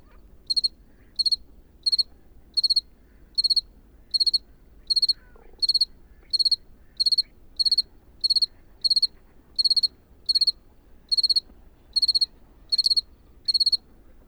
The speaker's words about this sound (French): Là, je pense que la température est en dessous 10 degrés parce que je commence à avoir froid au bout des doigts et le grillon a du mal aussi à chanter.